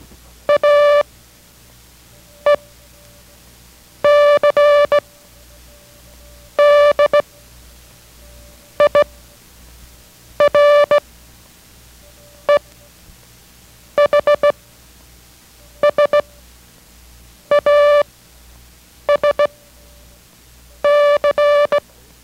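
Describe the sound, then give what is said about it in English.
Morse code practice characters A, E, C, D, I, R, E, H, S, A, S and C repeated as a steady, mid-pitched beeping tone, short dots and longer dashes grouped with clear pauses between each character, sounding alone with no voices. “So listen, this is a repetition of what we have just sent.”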